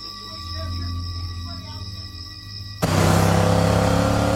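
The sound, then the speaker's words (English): Taggart's pickup truck, driven by Jackie, drives along a road with a steady low engine drone, then about three seconds in a sudden louder rush of engine and road noise takes over. “Jackie drives Taggart's pickup truck along the road.”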